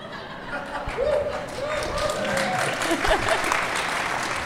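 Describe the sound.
An audience applauds steadily throughout, a dense wash of clapping with a few whoops and murmured voices mixed in, holding at an even, moderate loudness.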